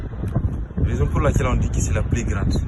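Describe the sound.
Strong, gusty wind roars and buffets the microphone with a steady low rumble at the top of a 27-metre mud-brick mosque minaret in the small desert town of Agadez, while people talk over it.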